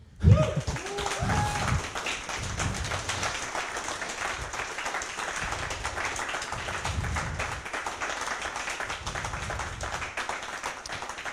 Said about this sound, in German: An dieser Stelle kommt frenetischer Applaus.